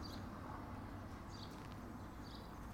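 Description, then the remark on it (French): A blackbird sings faintly, three short whistled phrases spaced about a second apart over a steady low outdoor rumble, with no voices. “Mais enfin, là, il chante, il va être dans l'arbre.”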